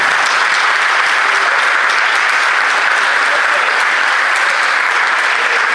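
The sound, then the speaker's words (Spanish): An audience applauds a man who was just designated a citizen: the crowd claps steadily and loudly, a dense continuous patter of many hands that holds at an even level for several seconds with no voices standing out. “que pido un fuerte aplauso porque recién fue designado el ciudadano.”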